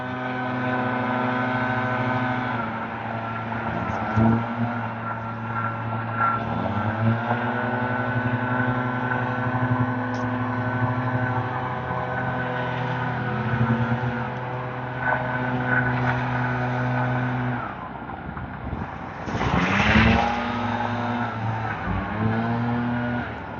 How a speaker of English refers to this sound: Three guys with backpack leaf blowers. No sign of hearing protection anywhere.